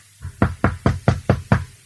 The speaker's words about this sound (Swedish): I det här rummet verkar det inte vara någon, men vi knackar väl på.